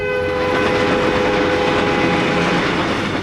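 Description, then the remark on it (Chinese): A green-carriage passenger train in China rumbles along steadily on a trip of more than 50 hours to Chengdu in 1997, its horn sounding one long, sustained blast the whole way through, loud, with no voices present. “1997年，我考上了大学，坐绿皮火车50多个小时才到成都。”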